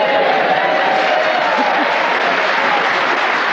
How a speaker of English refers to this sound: And you can hear that we have a fine, warm, receptive Hampshire audience ready to cheer us on our way as we begin the show this week with Paul Merton.